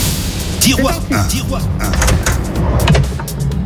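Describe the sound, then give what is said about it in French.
A cash drawer, the first of three prize drawers in a game, slides open with a continuous rumbling, scraping rattle lasting a few seconds, fairly loud, with voices murmuring underneath. “3 tiroirs à ouvrir dans l'ordre. Est-ce que vous êtes prête à ouvrir le premier?”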